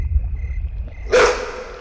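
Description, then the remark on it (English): A low rumble gives way to a sudden, loud whooshing burst with a brief animal-like yelp as a werewolf shifts out of wolf form back into human form, then the sound fades out quickly. “shift out of wolf form, you idiot.”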